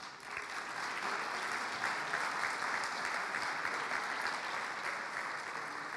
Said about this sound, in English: This year's Community Engagement Fair is special because we've received support and sponsorship from vibrant communities. I'd like to take just a moment and give them a big round of applause.